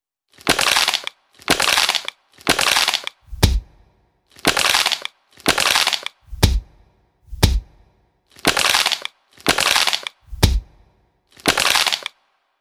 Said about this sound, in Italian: Il sacchetto e il piede sul pavimento.